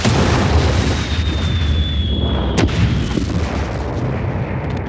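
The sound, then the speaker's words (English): A sci-fi spacecraft explosion effect depicting a spacecraft being destroyed in space: a high whistling tone slides slowly downward over a heavy, steady rumble, then a sharp, loud blast cracks out and the roar rolls on afterward. “But come on, that's no good for a podcast. Cue the sound effects.”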